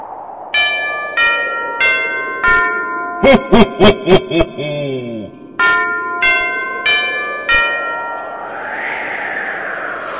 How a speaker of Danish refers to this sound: Sikke mange klokken slår, 13 slag, tiden går.